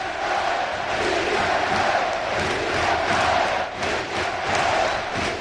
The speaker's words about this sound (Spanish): Sí se puede, grita el Ciudad de Valencia, que cree que puede salvarse.